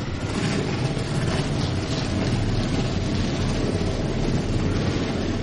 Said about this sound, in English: Ladies and gentlemen, start your engines. Oh, I love those words. I love it even more when the engines crank up.